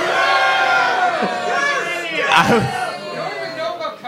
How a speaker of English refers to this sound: When I am right, I want you guys to cheer. Yeah, like that.